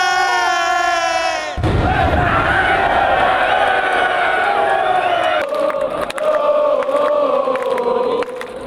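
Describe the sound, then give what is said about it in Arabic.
A large crowd of AC Milan supporters roars and cheers loudly, celebrating Milan winning the Serie A (Calcio) title, with a sustained wall of shouting and chanting that swells after a brief opening of higher-pitched singing and whistling. “احتفالات كبيرة يعني يستحقها للأمانة جماهير أي سي ميلان، هذه الجماهير المعروفة بولائها لهذا النادي الذي ابتعد سنوات أكثر من عقد من الزمن عن لقب الكالتشيو، ولكن عاد لتتزين هذه العاصمة الإيطالية الجميلة باللون الأحمر بعد أن فاز الميلان بلقب الكالتشيو”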